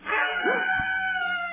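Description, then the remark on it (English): A screech owl's wavering, high-pitched call sounds once, held for over a second with a quavering, whinnying tone. It is fairly loud, with no voices alongside. “Screech owl.”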